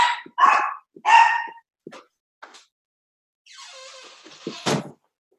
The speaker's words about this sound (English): Sorry if you can hear the dogs.